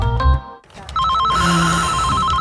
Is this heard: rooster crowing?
no